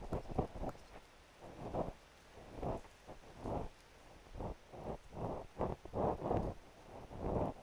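rain falling

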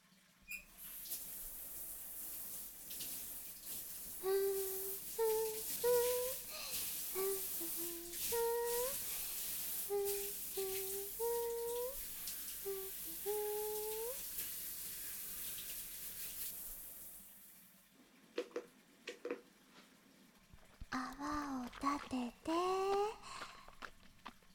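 shower water running

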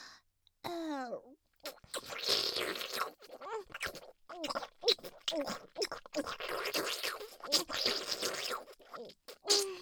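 wet slurping mouth sounds

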